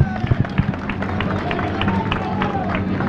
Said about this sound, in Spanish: A ver, vamos a darles un aplauso y luego cuentas tu vida. Eso. Venga, un aplauso para ellos.